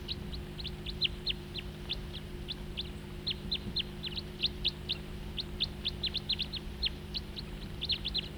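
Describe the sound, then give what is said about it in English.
Calls of a crossbill flying nearby: a steady stream of sharp, high chip notes repeating quickly and irregularly, over a constant low mechanical hum in the background. “And another crossbill flying nearby.”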